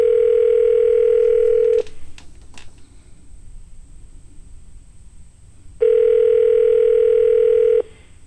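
A telephone ringback tone on a call line: two long, steady buzzing rings, each about two seconds, separated by several seconds of quiet line hiss. No one speaks.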